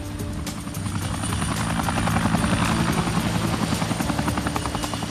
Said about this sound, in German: Ein Geräusch hatte uns geweckt. Ein Helikopter. Ein kleiner blauer Zweisitzer mit dem roten Parnassus-P.